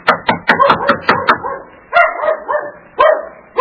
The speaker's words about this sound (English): I didn't mean to knock so loud. Oh, that sounds like Mickey barking.